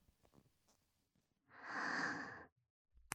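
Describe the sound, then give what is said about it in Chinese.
A single heavy, breathy exhale, loud, lasting about a second, with faint quiet rustling before it and a brief sharp click right after. “你的喘息声好像越来越重了。”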